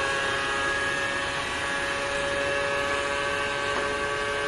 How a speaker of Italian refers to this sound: Allora, supponete di essere sulla macchina, facciamo Leclerc, dai, che va di moda Leclerc, e gli sentite il suono della macchina sotto di voi, com'è monotono.